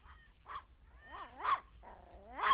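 A dog named Charlie whimpers in several short, wavering whines that rise and fall in pitch, growing a little louder toward the end, with no talking.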